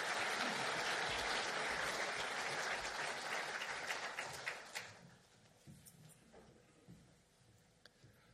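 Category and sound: crowd, warm applause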